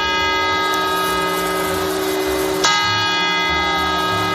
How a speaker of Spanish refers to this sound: El día celebrado en todo el mundo es el sonido que en España marca el cambio de año, las campanadas. Estas son de la... el reloj de la Puerta del Sol en Madrid